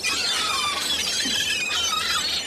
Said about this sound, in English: All flapping wings, razor-sharp beaks, and screaming like banshees, seagulls swoop in to steal snacks right out of your hands.